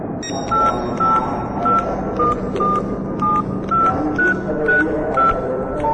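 A phone number is dialed as a quick series of about ten short, evenly spaced keypad tones at slightly varying pitches, over a steady background hum with no one speaking.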